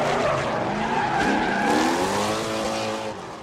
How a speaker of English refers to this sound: They hit the first corner, leaving black skid marks behind. The cars slide, two at a time, through the course with a symphony of squeals.